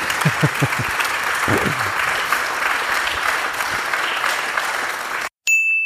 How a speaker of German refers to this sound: Ich glaube, da kann man mal einen kleinen Applaus zwischendurch.